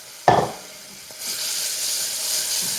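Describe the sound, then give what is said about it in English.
A sharp metallic clink rings out briefly, then after a moment a steady, bright sizzling hiss rises and holds as brown sugar and water cook on low heat in a hot pan to make candy. “My brown sugar is cooking. Hopefully not burning.”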